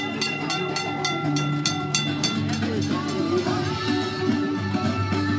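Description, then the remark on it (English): An old tram in Kolkata, part of a parade of gaily decorated old trams led by a 100-year-old green wooden car, rumbles along its tracks with a steady low drone, a regular clatter of wheels over rail joints early on, and metallic squeals and hum, with faint voices in the background. “this year to celebrate 150 years of trams in Kolkata, with cake, music and a parade of gaily decorated old trams, led by a 100-year-old green wooden car.”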